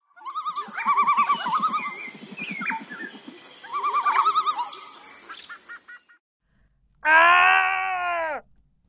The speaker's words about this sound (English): Once they're settled, they eat in silence while listening to the noises of the night. A concert of animal cries erupts.